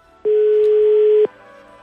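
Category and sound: signal or alarm, telephone ringing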